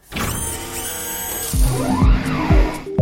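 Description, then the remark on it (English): A motorized whir runs for a few seconds, rising and falling in pitch, ending with a couple of mechanical clunks as a smart door lock engages on a spoken command, fairly loud, with no voices. “Hey, lock the door.”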